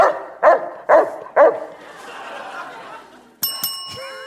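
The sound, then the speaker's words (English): A Saint Bernard dog gives three loud, deep barks in a steady rhythm, followed by a quiet pause and then a bright ringing bell chime near the end. “This dog breed shares its name with the patron saint of snowboarding.”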